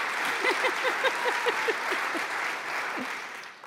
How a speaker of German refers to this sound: Dachte, du kommst nicht. Noch kein Wort gesagt und schon so ein Applaus. Wie kann das sein?